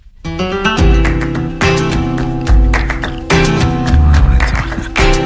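A loud flamenco song recording plays on its own, with a driving rhythm, heavy bass, and sharp percussive accents repeating every second or so.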